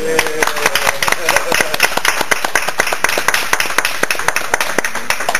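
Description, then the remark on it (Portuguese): A round of applause from a group at the close of a Ministério Público meeting, steady overlapping hand claps that keep a dense, fairly loud pattern for several seconds, with a voice briefly audible at the start. “Eu proponho uma salva de palmas.”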